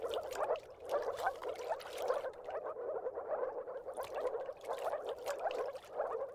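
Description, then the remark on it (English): A chorus of moor frogs calls continuously from a low moor marsh, soft bubbling croaks overlapping in a steady dense rhythm, moderately loud, with no voices. “Moor frogs live in low moors, just like water rails.”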